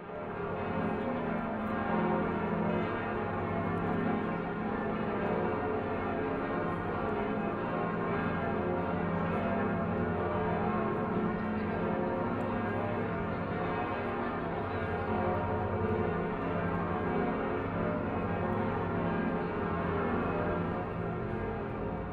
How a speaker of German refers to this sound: wie geht's Ihnen, wenn Sie diese Glocken hören? Es ist ein unbeschreiblicher Klang.